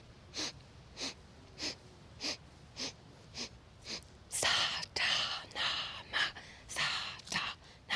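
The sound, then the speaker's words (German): Rhythmic breathing done as a breathing-pattern exercise, with short, regular breaths at first, then louder, more forceful exhalations in a quicker pattern, clear with no talking. “beim Ausatmen laut. So soll die Aufmerksamkeit bei der Atmung bleiben.”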